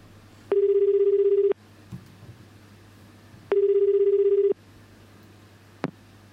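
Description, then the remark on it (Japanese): A phone line ringback tone sounds twice while calling someone, each steady one-second burst separated by a pause of about two seconds, heard clearly over a low background hum with a faint click near the end. The call is not answered and goes to voicemail. “はてさて、 もしもし、出ないかな、出るかな。”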